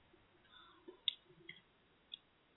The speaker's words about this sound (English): Someone's typing.